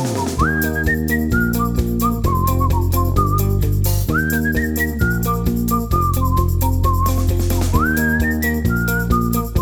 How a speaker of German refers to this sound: Komm, machet alle mit und pfeifet unseren Song. Pfeifet immer lauter, egal ob alt, ob jung.